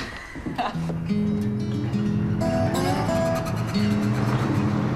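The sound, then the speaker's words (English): A truck engine rumbles, its low drone shifting in pitch as the truck pulls in and parks outside a museum, slowing to a stop, with a few faint clunks and squeaks over the steady hum. “But Ox is returning in the truck, and as he parks outside the museum,”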